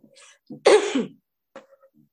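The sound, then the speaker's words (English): A single sharp sneeze bursts out after a short breath in, followed by a couple of faint trailing sounds and no talking. “Bless you.”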